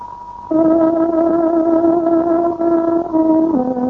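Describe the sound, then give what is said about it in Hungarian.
A tárogató sounds a radio time signal marking 17:00 on a Hungarian shortwave broadcast: after a faint opening tone, one long, loud, reedy note holds steady, then slides down to a lower note at the end, with a slight echo. “Most pontos időjelzést adunk, tárogatónk 17 órát jelez.”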